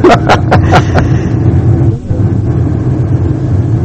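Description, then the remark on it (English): A car drives along with a steady, loud engine rumble, and a few quick sharp clicks at the very start before the low drone continues unbroken. “Shall we drive to the river?”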